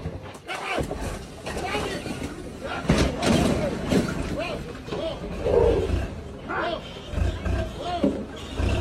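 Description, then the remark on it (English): An angry elephant bellows and roars as it charges a tourist truck in South Africa, with a low engine rumble, a loud thump around the middle, and panicked voices throughout. “An elephant was not here for a tourist truck invading his personal space in South Africa.”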